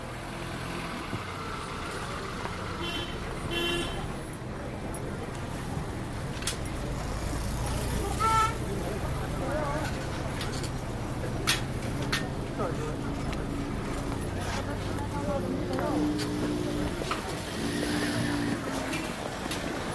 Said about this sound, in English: small trucks, 4x4s. You know, there's all kinds of vehicles. The variation of vehicles is just amazing. And the only thing you don't see is big cars, lots of big cars or trucks that you don't see. So that's why this spot is so great for recording.